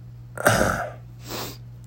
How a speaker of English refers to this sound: Well, I get a horrible cough every year. This time of year, every year, your boy hacks like Mr. Chickadance, Mace Ventura. Okay, it's just part of it. I don't get sick much at all. Thank goodness for that. But when I get a cough, it's...